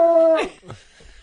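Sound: small dog whimpering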